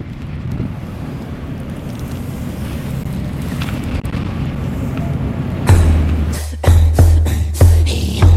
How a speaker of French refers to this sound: On est derrière une porte d'un bateau. Et on entend le vent. Et on voit les mouettes. Ouais, bon. Mais il y a beaucoup de vent.